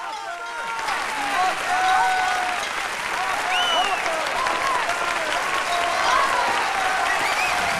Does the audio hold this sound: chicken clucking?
no